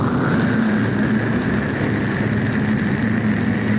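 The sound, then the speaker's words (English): A steady, powerful rocket engine roar as a spaceship's Stage 2 engines are fired, a dense rumbling hiss that holds at an even, loud level throughout with no pauses or voices. “I want you to prepare to fire Stage 2 engines.”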